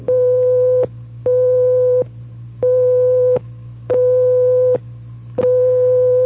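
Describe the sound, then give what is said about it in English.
A telephone busy signal as used in Germany, France and Spain: a steady single tone pulsing on and off in even beeps, five in a row, with a low background hum and no voices. “And if it's busy, you'll hear this.”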